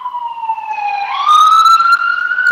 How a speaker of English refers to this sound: oh sorry, I got a siren coming by here.